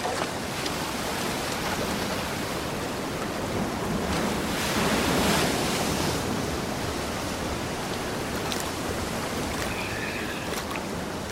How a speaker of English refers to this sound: If you see anything, shout. It's going to be hard to hear anything over the waves.